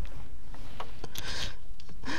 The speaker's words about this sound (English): Dropping my phone.